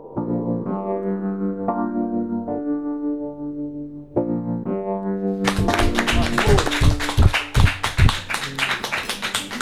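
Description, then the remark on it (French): A sustained, melodic instrumental passage plays alone, then a live audience breaks into loud, dense, real (not pre-recorded) applause partway through, the clapping continuing over the music to the end. “Ce sont des vrais applaudissements, je me retourne vers la technique.”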